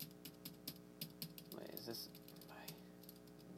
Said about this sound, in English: Sorry for the keyboard. I just type. It's my keyboard's very loud.